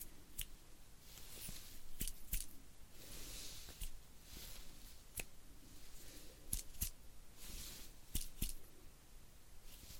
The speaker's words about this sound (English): Do you hear this? Okay. Do you hear that? Okay, which side? many times I snap my fingers.